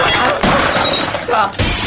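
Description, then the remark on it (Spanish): A loud glass railing shatters, a sustained bright crash of breaking glass with scattering shards, followed by a second burst of breakage near the end. “La barandilla era de vidrio.”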